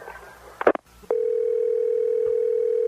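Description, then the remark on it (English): A phone call is cut off: a short clatter and click from the line, a brief silence, then a steady, unbroken dial tone hums at a single mid-low pitch until the end, loud and constant. No one speaks. “We seem to have been cut off.”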